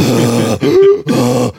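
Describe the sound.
A voice imitates breathless panting, as after running to a bus terminal in winter: loud, ragged vocal gasps and grunting exhales in a few quick bursts, with a short rising strained tone between them and no words.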